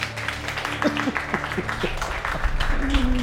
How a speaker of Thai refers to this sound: อ้าวรออะไรอยู่เล่าปรบมือ